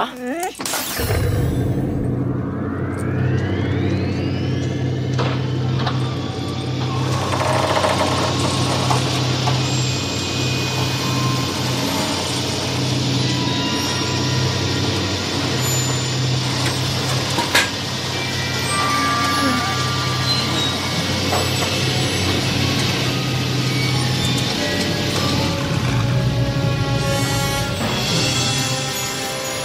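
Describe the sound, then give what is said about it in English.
A truck's rear opening with a mechanical whine, then a DeLorean car's engine rumbling steadily as it rolls out of the truck, a loud, continuous low drone with clanks and hiss throughout. “And then the truck opens, and the DeLorean comes out.”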